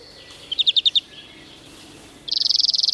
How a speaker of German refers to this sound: Also wenn ich so einen Vogel wie den Grünfink höre, das ist, als wenn ich eine Standleitung in die Kindheit habe.